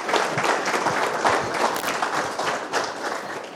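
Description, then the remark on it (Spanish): An audience applauds steadily for all the mapped collaborations at an agroecology event, a dense, even wash of many hands clapping at a fairly loud, constant level throughout, with no voices standing out. “Un aplauso para todas las colaboraciones mapeadas.”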